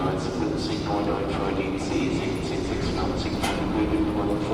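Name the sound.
train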